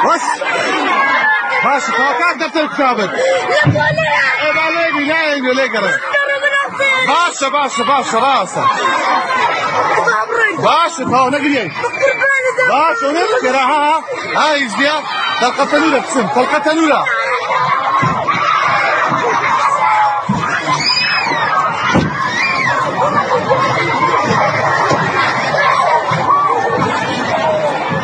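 A large group of children at Kurdish schools in the Kurdistan Region of Iraq screaming and shrieking at once, terrified by the sounds of Iranian missile bombardment, loud, their overlapping high-pitched cries and chatter continuing without pause throughout.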